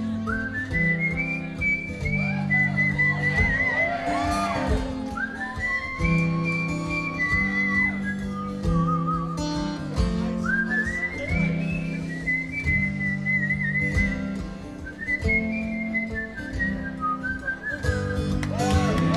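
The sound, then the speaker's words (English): A person whistles a bright, lilting melody in repeated phrases over a steady backing of bass and rhythm, the whistle clear and upfront for the whole stretch. “Sing down the street whistling.”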